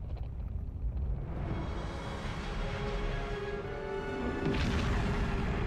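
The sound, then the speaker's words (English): A deep, continuous rumble as the Ark, a spaceship inside a mountain, starts up, with steady low roar and faint tonal hum, swelling louder and harsher near the end. No voices. “The Ark starts to rumble.”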